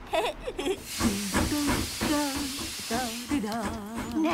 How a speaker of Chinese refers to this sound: 火车慢慢地爬上了山。然后火车快速地下山了。